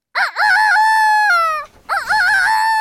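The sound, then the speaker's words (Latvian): A folk singer imitates a rooster's crow as a riddle, 'Which bird sings like this?', with a loud, strained, warbling call, two long cock-a-doodle-doo phrases separated by a brief breathy pause. “Pareizā atbilde ir Gailis.”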